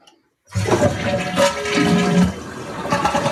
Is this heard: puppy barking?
no